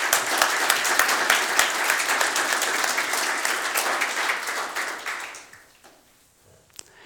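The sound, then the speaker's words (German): Steady applause from an audience at a Christmas church service for four children who read the Christmas story, many hands clapping in a dense, even patter for about five seconds before tapering off into quiet, with a single sharp clap near the end. “Vielen Dank euch dafür und ich glaube, die haben einen Applaus verdient.”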